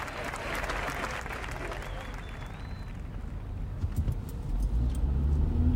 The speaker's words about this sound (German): Auf der A9, aber nicht Autobahn, sondern Autoroute, irgendwo Höhe Perpignan. Einmal mehr fahre ich das Auto Richtung Süden.